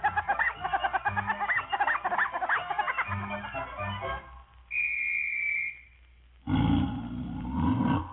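After a stretch of bright, bouncy music and a brief rising whistle, a loud, rough tiger roar bursts in near the end and rumbles for about two seconds.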